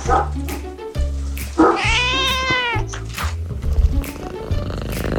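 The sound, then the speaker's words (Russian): A cat named Ryzhik, fitted with prostheses on all four paws, lets out one long, loud, wailing meow, rising and falling over a couple of seconds, with a low steady hum underneath. “Это единственный в мире кот, у которого стоят протезы всех 4 лапок.”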